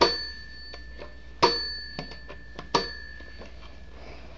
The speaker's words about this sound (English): Let me hear the doorbell.